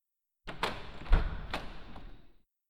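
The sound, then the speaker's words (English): A door to a locked room slides open with a rough scraping rumble and a few clunks and knocks along the way, fairly loud, lasting about two seconds with no voices. “Let's open up that door and go in and see how she's doing.”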